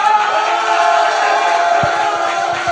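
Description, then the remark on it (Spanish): An audience at a live event applauds and cheers for the stage manager in a steady, loud wash of clapping and crowd voices that holds for a few seconds without a break. “Por cierto, un aplauso para Dani, el regidor.”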